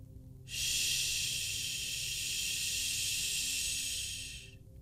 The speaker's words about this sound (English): Static flared louder from down below